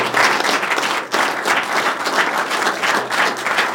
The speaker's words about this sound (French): Merci beaucoup, Pierre Aoun. Applaudissements pour Pierre Aoun.